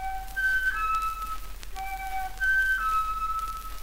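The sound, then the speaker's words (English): A silly, tuneful whistle, made by Wilbur the whale trying to blow water through his spout, plays in two short bursts, each hopping between a few bright pitches with a little warble, heard clearly on its own with no talking. “He tried and tried again to blow water through his spout, but each time he tried, only this silly whistle came out.”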